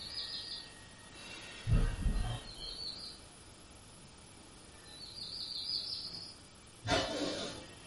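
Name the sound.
birds chirping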